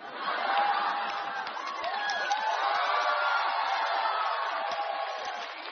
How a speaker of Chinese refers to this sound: 行了，别鼓掌了，别鼓掌了。